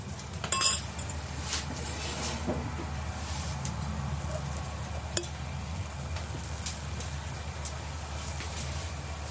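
Glasses of Boschendal wine clink together in a toast at a rented cottage on a farm, a bright ringing chink near the start followed later by a single faint tap, set against a low, steady outdoor hum with no talking.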